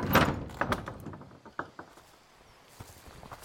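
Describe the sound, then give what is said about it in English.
A front door is pulled open with a loud creak and rattle, followed by a few lighter clicks and soft footsteps fading as someone steps out. “steps out the front door with you.”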